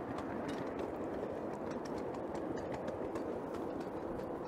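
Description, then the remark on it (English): A steam locomotive engine working harder as the regulator is opened further and steam chest pressure rises: a dense, steady mechanical roar with quick, regular chuffing beats running through it, with no one speaking. “If I open the regulator more, that goes up, and you can hear it working harder.”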